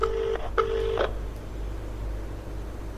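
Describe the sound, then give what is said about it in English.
A mobile phone call to a water-efficiency organisation ringing out over the phone's loudspeaker, made from a toilet cubicle: a double burst of electronic ringing tone, a pause of about two seconds, then the tone starting again, with no one talking. “So if I just get my phone out, we can give them a call. I'll put it on loudspeaker and ask them what it's all about.”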